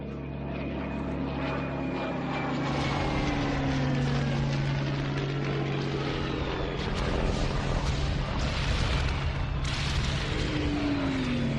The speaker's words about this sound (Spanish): de la devastación sin precedentes que sufrió Guernica el 26 de abril de 1937 cuando la Legión Cóndor alemana y la aviación legionaria italiana descargaron durante horas una lluvia incesante de bombas que caía así sobre la población indefensa.